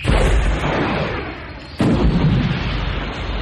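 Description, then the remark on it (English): Sci-fi plasma cannon fire from two skips and explosions rumble loudly and continuously, a dense barrage of booming blasts with one sharp fresh impact partway through. No voices are heard. “She sideslipped to port, and as both streams of plasma cannon fire followed her, the fire from the starboard skip crossed the body of the portside skip.”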